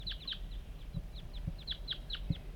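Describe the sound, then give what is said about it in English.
Wild birds coming in call in a quick, uneven series of high, short chirps and clucks, fairly quiet, with a few soft low thumps underneath and no talking. “49, the wild birds are coming now.”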